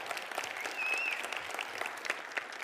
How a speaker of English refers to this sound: if you just kind of give Scott a round of applause, make him feel welcome